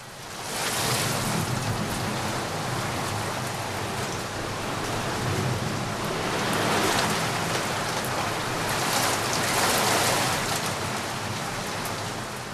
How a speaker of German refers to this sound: Levi lag in seinem Kinderzimmer auf dem Hochbett und beobachtete, wie die Regentropfen an die Fensterscheibe trommelten und immer wieder Wettrennen hinab in Richtung Fensterbank veranstalteten.